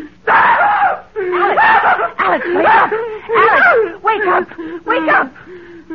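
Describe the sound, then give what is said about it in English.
A person screams during a nightmare, a series of loud, anguished, strained cries with brief gasping pauses between the wailing bursts. “You were having a nightmare. You screamed and woke me up.”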